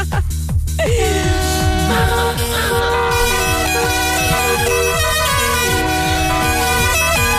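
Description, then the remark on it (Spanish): A dense, continuous blare of many car horns honking at once as cars all arrive together, overlapping loudly for several seconds, with no voices. “Pues ahí llegan todos los coches.”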